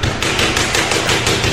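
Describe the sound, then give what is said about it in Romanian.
Rapid, loud banging repeats in a steady fast rhythm, like fists hammering on metal train doors, a dense continuous barrage with no voices. “Deschideți ușile trenului!”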